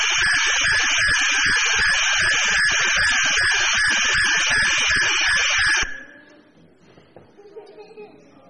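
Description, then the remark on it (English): A loud, continuous cricket chirping with a rapid pulsing trill at high pitch, running steadily for about six seconds before cutting off abruptly into near silence, played as an animal sound in a guessing quiz. “It's also a game that people play with a bat and ball. Cricket, well done.”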